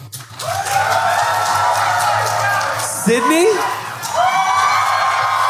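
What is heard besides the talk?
audience applause and cheering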